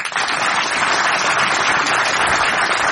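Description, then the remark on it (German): An audience applauds the author Herr Plopper steadily, a dense, continuous wash of many hands clapping at an even, fairly loud level for the full three seconds, with no voices audible. “Herr Plopper, Ihr Applaus.”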